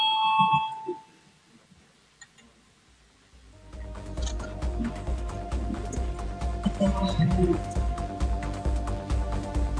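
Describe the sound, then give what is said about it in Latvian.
A brief electronic chime sounds, followed by a short lull, then a loud, continuous bell rings steadily to the end, calling a parliamentary vote on proposal 31 of the Union of Greens and Farmers faction, with a faint murmur underneath. “Lūdzu, zvanu balsosim par 31. Zaļo un zemnieku savienības frakcijas priekšlikumu.”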